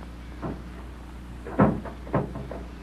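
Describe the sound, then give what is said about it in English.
A door bangs shut several times, about four dull wooden thuds in uneven succession, the second the heaviest, with a low steady hum underneath and no voices. “There's that door slamming again.”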